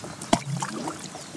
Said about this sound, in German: Hörst du das? Ja. Na, das war Platschen.